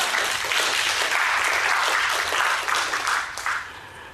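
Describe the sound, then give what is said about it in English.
An audience claps in sustained, dense applause that holds steady and loud before tapering off near the end, with no voices standing out. “It is not, you can clap.”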